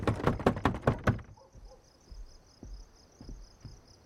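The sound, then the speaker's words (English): A garage apartment door opens with a quick run of loud, rattling clacks lasting about a second. Then a steady high cricket chirp carries on over quiet background with a few soft thumps. “Min opens the door and looks at her.”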